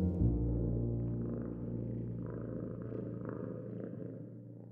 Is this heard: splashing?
no